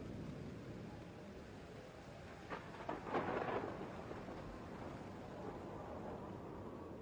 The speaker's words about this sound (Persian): آن شب برف و باران شروع به باریدن تند می کند. اما باد از بلندا می وزد و برف و باران را از چادر مرد دور می کند.